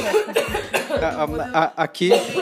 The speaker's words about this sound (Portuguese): Vou tossir também, então vamos parar todo mundo.